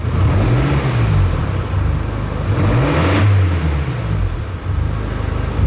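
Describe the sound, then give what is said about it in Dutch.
A diesel family car engine runs steadily, its soft, low hum rising and falling in pitch a few times as it revs gently. No voices. “Het is een diesel. Een zacht dieselgeluidje.”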